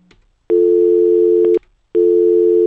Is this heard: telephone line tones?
yes